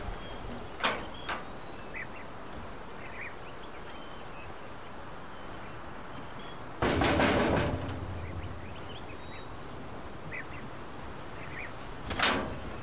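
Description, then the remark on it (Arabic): A door is shut and locked: a couple of sharp clacks, then a louder, roughly second-long rattling thud, and a final click near the end, all over a quiet background with no voices. “أقفل الباب.”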